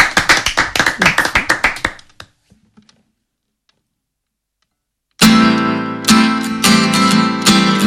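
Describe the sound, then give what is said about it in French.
A short round of audience applause encouraging the singers during a live radio session on 100.5 FM, quick overlapping claps that thin out and fade within about two seconds, followed by a pause of near silence before loud music starts. “Et puis bah pareil, les petits applaudissements pour les encourager.”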